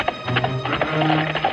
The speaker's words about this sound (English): The five bandits ride side by side, tearing up the dirt road out of town. Pushing his horse to the limit, John keeps up the chase. Ben is close behind.